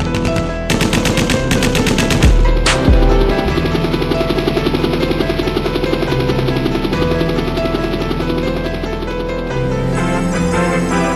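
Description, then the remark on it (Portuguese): Sustained bursts of automatic gunfire rattle loudly, with rapid repeated shots layered over a low rumbling drone, like a helicopter overhead, and no voices: an exchange of fire between a heavily armed gang of robbers and local police. “Estamos aqui diretamente do local onde acabamos de registrar uma troca de tiros de uma quadrilha de assaltantes fortemente armada com a polícia local”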